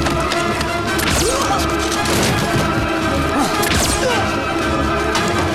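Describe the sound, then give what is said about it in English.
A heavy body slams down onto a glass roof pane with a loud crash after a man unclips his cable and falls 20 feet, followed by further sharp impacts and scraping as he slides down the sloping glass, amid a dense, continuous wash of action noise. “Reaching the apex of the arc, he unclips his cable and falls 20 feet down onto one of the roof panes.”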